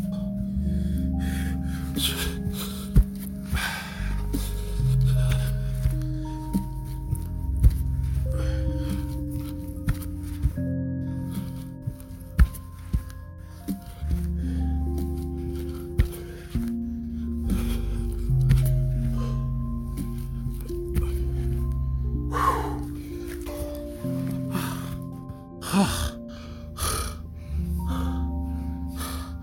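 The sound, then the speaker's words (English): Heavy panting and sharp gasps from someone doing a set of 20 Navy SEAL burpees, with irregular thumps and shuffling as they drop and jump, close to the mic over a steady low musical backdrop. “Okay, and guess what? I'm going to do another 20.”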